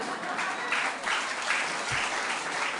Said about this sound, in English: Yes, let's have some applause.